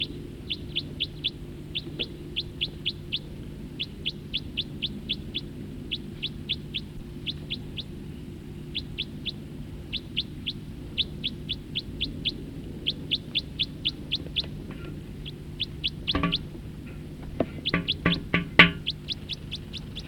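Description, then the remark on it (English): A bird sings during a song flight in rapid bursts of high, thin chirps, repeated in quick runs across the whole stretch, with a steady low hum underneath and no voices. “Song flight of the bird that was calling.”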